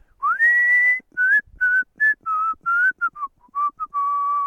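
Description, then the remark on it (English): A person whistles a bright, bouncy tune, imitating the catchy whistled introduction of a 1988 number-one hit song, with a long rising opening note followed by a quick run of short, choppy notes and a held final tone. “It has that catchy whistling introduction that goes like this.”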